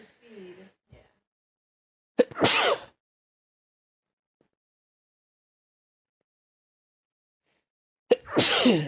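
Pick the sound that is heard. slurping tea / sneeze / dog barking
sneeze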